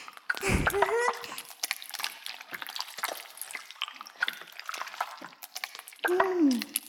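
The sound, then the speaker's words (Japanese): Wet squelching and fine bubbly crackles of shampoo being worked into a thick lather for washing someone's hair, continuing steadily, with a short voiced sound at the start and another near the end. “もう十分泡立ったと思うし。”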